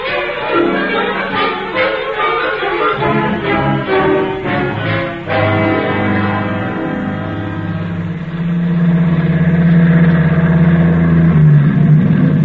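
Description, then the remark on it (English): A truck engine rumbles steadily as the vehicle drives along, its tone rising and shifting as it gears up, then settling into a louder, even drone. No one speaks. “you take me now in your truck.”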